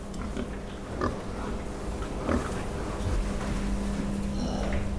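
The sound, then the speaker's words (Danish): Pigs grunt and snuffle continuously in a pig producer's busy barn, several animals together, with occasional louder squeals over a steady low hum of ventilation. “har prøvet at komme hele vejen rundt om en svineproducents hverdag og udfordringer. Og vi begynder ude i stallen.”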